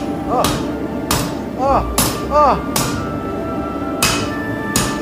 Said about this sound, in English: That hammer. Why does it sparkle when you hit it? It's the scale basically popping rad. On the hot steel.